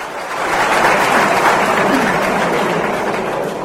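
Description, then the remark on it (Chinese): A large audience bursts into sustained applause after an answer by the Dalai Lama at a lecture event at a New Delhi university, a dense, steady wash of clapping that swells quickly and holds at full strength for several seconds. “所有与会者对达赖喇嘛尊者的这一回答都感到非常钦佩和赞赏，场内顿时掌声四起。”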